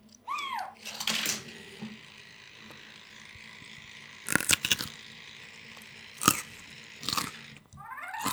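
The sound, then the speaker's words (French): Crisp, close-up crunching as someone bites into a carrot, a handful of sharp snaps spaced out over several seconds with quiet chewing in between and a faint squeak at the start and end. “Une carotte.”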